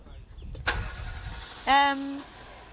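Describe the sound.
A car engine cranks with a sharp click, then catches and roars into a loud, steady buzzing rev for about half a second before settling into a lower running hum, with faint voices in the background.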